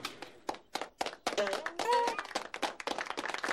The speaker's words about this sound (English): How are we clapping? I have no idea.